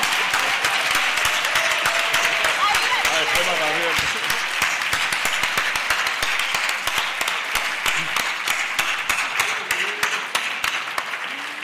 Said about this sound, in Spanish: un aplauso para